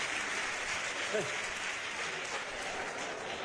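Sustained audience applause, a dense, steady crackle of many hands clapping at an even level throughout, with a brief vocal sound rising out of the noise partway through.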